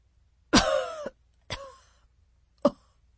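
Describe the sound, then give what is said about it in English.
A man coughs three times, fairly loud, with short pauses between. The first cough is the longest and most strained, and the last is a quick, sharp hack. No one speaks. “More coughing.”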